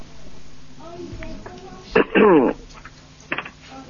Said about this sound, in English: The caller on the phone. We can hear you coughing.